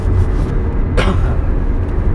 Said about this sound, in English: We are driving in the car again, as you can plainly hear on the return trip from Kansas.